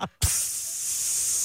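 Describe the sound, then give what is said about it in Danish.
Air hisses steadily out of a car tire, a loud, bright, unbroken rush that starts after a short thump and brief silence and holds at an even level to the end. “Det lyder af dine to bagdæk, Morsing.”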